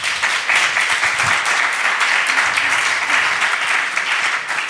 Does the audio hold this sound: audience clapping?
yes